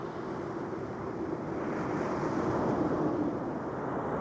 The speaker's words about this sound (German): Etwas Luft und Wellen, das klingt sehr schön und tut auch der Seele gut, aber warum soll ich mir das gerade jetzt anhören?